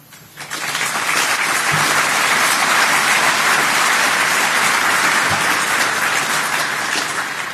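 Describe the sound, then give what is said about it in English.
At the end of a PowerShell talk, a crowd breaks into sustained applause that swells within the first half second and stays loud and steady throughout, a dense wash of clapping from many hands with no talking over it. “So I would request applause for these guys.”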